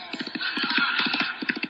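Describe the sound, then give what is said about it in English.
A cowhand's horse gallops in, its hooves clip-clopping in quick, rhythmic clusters of three or four beats, a brisk, fairly loud galloping pattern over a steady hiss, with no voices. “Whoa! Whoa! Oh, come on, horse boy!”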